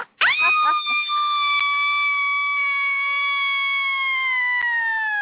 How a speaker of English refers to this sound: Okay, that's how you scream.